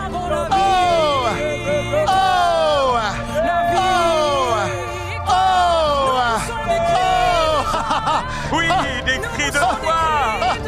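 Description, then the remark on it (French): Many voices at an evening Christian worship gathering, urged by the preacher to shout, cry out together in loud, overlapping surges, with wailing calls sliding up and down in pitch, swelling and fading in waves over a steady crowd roar. “Oh, oh, poussez, poussez les cris.”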